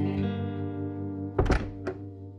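door being shut

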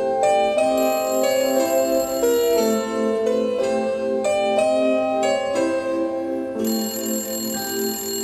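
telephone ringing

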